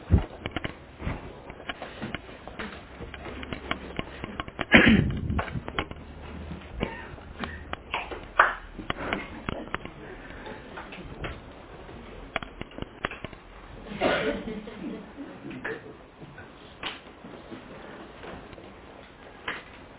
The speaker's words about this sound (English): So now you pass to him. Okay, so yeah. You want to turn to him and try to pass the clap, and then he's going to turn to you and on down.